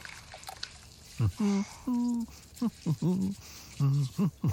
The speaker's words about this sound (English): Why are you doing this? Doing what? The dishes. Why are you doing dishes?